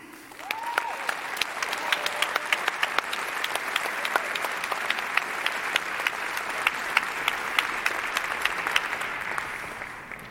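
Steady audience applause: many hands clapping in a dense, continuous patter at an even loudness for about ten seconds, with sharp individual claps poking through and a faint whoop near the start.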